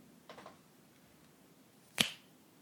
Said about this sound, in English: Do you hear that, cock? Every time you hear me snap my fingers, your cock is going to twitch, tense in pleasure.